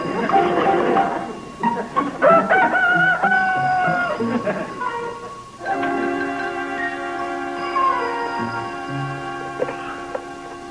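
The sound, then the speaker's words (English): A rooster crows loudly, a drawn-out harmonic call that rises and falls, followed by a steadier sustained tone that holds for several seconds. “the least you can do is to put that noisy chicken in your basement so that it doesn't wake up the whole neighborhood.”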